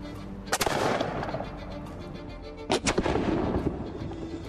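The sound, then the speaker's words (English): A replica musket fires twice, each a sharp, loud blast with a brief rumbling tail, a couple of seconds apart over a steady background hum. No one speaks. “And that is the same replica musket that they used back then.”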